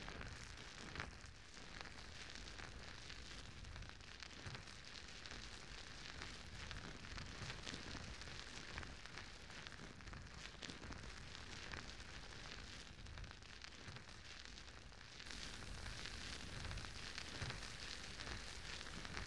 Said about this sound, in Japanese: まずは耳に泡をつけて、耳や周りの汚れを落としていきますね。では、泡を手に出して。両耳同時に、失礼しますね。